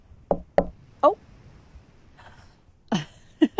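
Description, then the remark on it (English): Sharp knocks on a door: a quick pair and a single rap, then after a short pause three more. The raps are loud against an otherwise quiet background. “The person behind that door is coming to see me anyway.”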